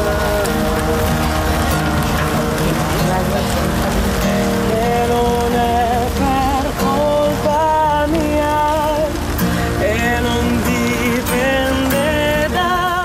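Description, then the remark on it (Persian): Steady rain hisses and patters outdoors at a street music festival in the city of Ferrara while loud live music with melodic instruments or singing plays over it, the downpour a constant wash beneath the tune throughout. “سومین فستیوال موسیقی خیابانی شهر فرارا زیر باران و با بغض‌ها و آرزوهای زیادی به پایان رسید.”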